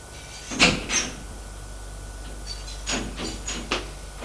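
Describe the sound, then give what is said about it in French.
A red-painted apartment door on a fourth-floor landing opens after the bell is rung: a couple of sharp clicks from the latch, a pause, then a series of soft creaks and knocks as it swings, over a low steady hum. “La porte s'ouvre.”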